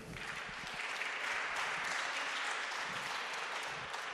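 An audience claps steadily for a guest who has just been introduced, a dense, even wash of many hands sustained at a fairly loud level throughout, with no voices standing out.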